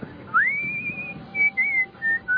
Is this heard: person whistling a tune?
yes